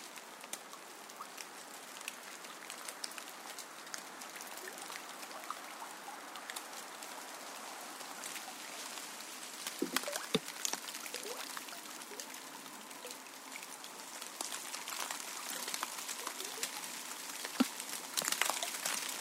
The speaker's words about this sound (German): Rieselnde Bäche, die unter Gemurmel durch Wälder und Haine eilen, die sich bald dem Wege nähern und dann wieder ins feierliche Dunkel zurücktreten.